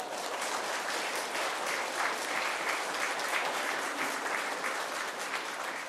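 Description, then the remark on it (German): A crowd applauds steadily for about six seconds, a dense, even wash of many hands clapping at once with no pauses or voices rising above it. “Ja, da könnt ihr euch mal klatschen.”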